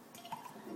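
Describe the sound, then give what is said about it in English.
A brief, faint burst of a toilet flushing in a bathroom, with gurgling, swirling water and no voices. “And I'm going to, first I'm going to flush the toilet.”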